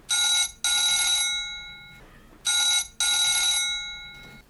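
A telephone rings twice in a classic double-burst pattern, bright and metallic with a shimmering bell tone, each pair separated by a short pause. Clear, with no talking.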